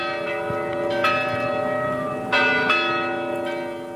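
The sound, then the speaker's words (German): Large bells in the bell tower of the main building of Georgetown University in Washington, a building in historicist style, ring out in overlapping, sustained chimes, with fresh strikes at irregular intervals and a rich, lingering hum between them; no one speaks. “Der Glockenturm des Hauptgebäudes der Georgetown University in Washington, ganz im Stil des Historizismus, mahnt zur Eile.”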